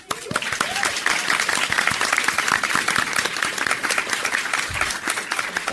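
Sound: audience applauding and cheering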